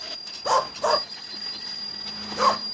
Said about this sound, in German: kannst du deinen Hund nicht an die Leine nehmen